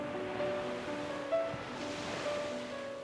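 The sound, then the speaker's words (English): Ocean waves wash steadily onto a shore in a continuous hiss of surf, with a soft, sustained musical tone humming underneath. No one speaks. “Walk towards the shore and stop just as the breaking waves rush over your feet.”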